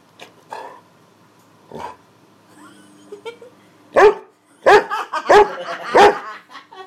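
dog barking

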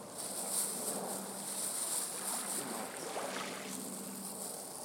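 sea waves

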